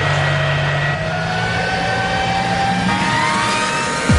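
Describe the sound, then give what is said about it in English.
A drag racing car engine starts and roars loudly, its pitch climbing steadily as it revs at the start of its third and final run, sustained for the whole stretch with no voices over it. “For the last time, start your engine and keep your eyes on the Christmas tree.”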